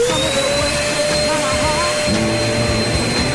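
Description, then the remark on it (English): A vacuum cleaner drones loudly and steadily throughout, its whine sitting on top of a faint original song about cleaning playing underneath, the melody mostly buried by the motor's roar. “These are the original songs, but with someone hoovering over them, okay?”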